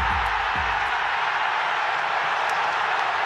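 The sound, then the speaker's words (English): A crowd of Arsenal fans cheers at Arsenal's 3–1 win over Tottenham, a dense, steady roar that holds at full volume for the whole stretch, with a couple of low thumps at the start. “A crowd of Gunners euphoria!”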